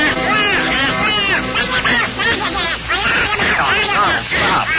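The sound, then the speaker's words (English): A raspy, quacking cartoon-duck voice of Donald Duck, introduced as the tenor Don Juan of Mickey's Grand Opera, chatters rapidly and continuously, loud, with garbled squawking syllables filling the whole stretch, a voice imitating a duck's quack. “First, that great romantic tenor and what a lover, Don Juan Donald Duck.”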